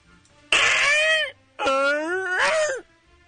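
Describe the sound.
A man's voice in a studio imitates Godzilla's roar in two long, strained bursts, each a loud, wavering, harmonic screech that rises and falls in pitch before breaking off, separated by a short pause.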